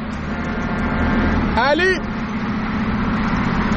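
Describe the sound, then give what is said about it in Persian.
A short, bright honk of a car horn rings out once for about half a second over a steady, loud rumble of road and engine noise inside a moving vehicle, as the driver slows and honks at a friend whose car has broken down, to see if he needs help. “بذار شل کنم یه بوق واسش بزنم ببینم کمک میخواد یا نه.”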